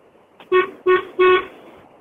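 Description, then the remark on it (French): A French car horn honks three times in quick succession, short loud blasts with a brief gap between each, the last slightly longer, over faint background noise. “Voici le klaxon français.”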